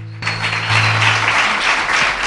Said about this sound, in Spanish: un aplauso muy merecido.